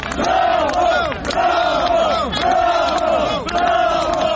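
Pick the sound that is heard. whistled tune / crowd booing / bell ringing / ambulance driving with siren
crowd booing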